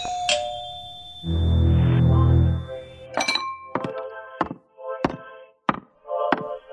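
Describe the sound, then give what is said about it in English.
Steady knocking on a front door, six firm, evenly spaced raps with a ringing edge, following a brief chime and a dull low thud, with no voices. “Someone's at the door.”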